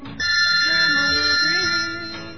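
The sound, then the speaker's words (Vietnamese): A phone ringtone for an incoming call plays a bright electronic melody with sustained high tones, fairly loud and steady for about two seconds, with no voices over it. “Lại gọi à, thích tốn tiền à?”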